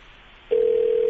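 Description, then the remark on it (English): A phone line sounds a steady, unbroken ringing tone on an unanswered outgoing call, starting abruptly halfway through and holding at a constant level, clear, with no voices. “Why don't these people answer their phone?”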